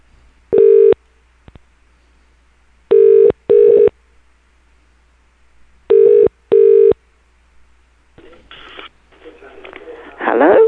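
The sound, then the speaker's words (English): A telephone rings through a handset: a single tone, then two double-pulse rings, clear and loud against silence. A muffled, crackly voice or line noise follows. “I'm going to have to call right back if you hang up.”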